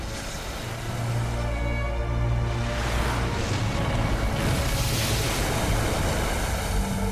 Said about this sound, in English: Waves break as they roll into a beach with land stretching out in front of them.